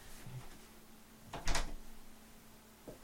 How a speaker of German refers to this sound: So, ich muss jetzt, glaube ich, mal die Tür zumachen.